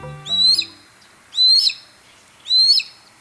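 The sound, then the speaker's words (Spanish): A Harris's hawk calls three times at a steady pace, each a short, harsh, rasping screech about a second apart, clear against a quiet background. “Si bien la mayoría de las aves rapaces son solitarias, el aguililla rojinegra vive y caza en grupos de entre 2 y 6 individuos.”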